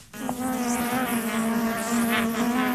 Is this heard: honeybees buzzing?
yes